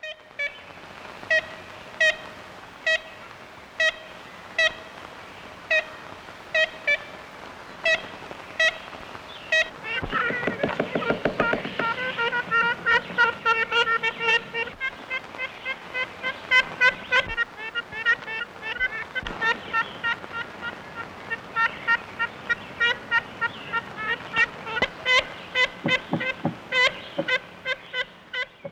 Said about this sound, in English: That recording made by Arthur Allen, who was founder of the Cornell Lab of Ornithology back in the 1930s. The most famous recording is of a bird very excited because the observers were down there below its nest. It's a very high-pitched.